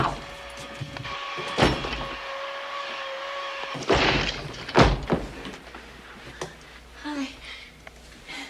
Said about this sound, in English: You either open up this door or I'm going to break it down.